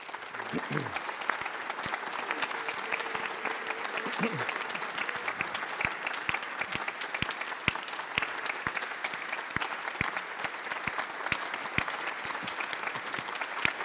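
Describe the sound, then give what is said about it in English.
Sustained applause from a crowd at St. Bart's, a dense steady patter of many hands clapping at an even loudness for the whole stretch, with a few sharper individual claps standing out. “You'll get to clap again, because now I'm going to embarrass him.”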